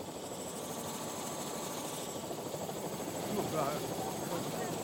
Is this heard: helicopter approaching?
yes